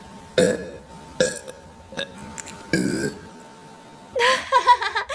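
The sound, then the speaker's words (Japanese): Four loud burps from a woman in quick succession, each a short throaty rumble separated by brief pauses, ending with a longer, gurgling belch. No one speaks. “ゲップ出すぎ。”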